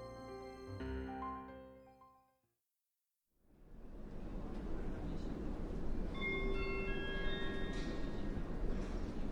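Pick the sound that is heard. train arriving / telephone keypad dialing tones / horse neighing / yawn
train arriving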